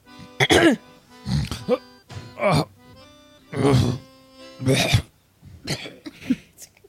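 throat clearing

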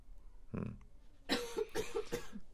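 coughing

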